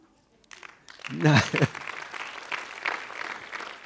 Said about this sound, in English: Now, for you, you have clapped.